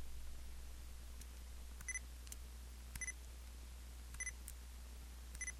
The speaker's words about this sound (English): The bottom one is voice and music. Down is voice, up is music. When you switch between the two modes, the recorder will give you a double beep.